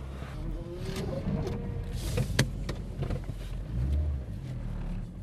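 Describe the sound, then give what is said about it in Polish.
Cars drive past on a wet road in the rain, a steady low rumble and hiss that swells as vehicles pass, with a few sharp clicks mixed in. “Pada, samochody jeżdżą, ale pada.”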